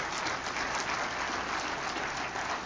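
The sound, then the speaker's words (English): A church audience claps steadily and densely for a few seconds as a clap offering to the Lord at the end of a Sunday morning service, a sustained wash of many hands applauding together, with no one speaking over it. “Can you give the Lord one last good clap offering?”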